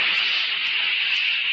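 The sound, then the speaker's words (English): A steady, continuous jet of moisture, standing for the moisturized Rolly 903 cigarette, hisses for about a second and a half, bright and even in loudness with no break, and no voices. “That jet of fresh pure moisture stands for the new, all-new Rolly 903 cigarette.”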